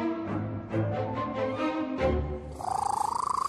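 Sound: cat purring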